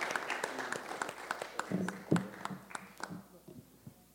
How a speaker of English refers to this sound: So why don't we stand together and greet him in Jesus' name? Praise the Lord. Let's give a hand clap of praise to the Lord.